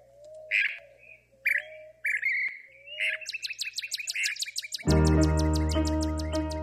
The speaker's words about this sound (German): So klingt … Kleinstadt-Idylle. Dieses Vogelgezwitscher hört er jetzt jeden Morgen.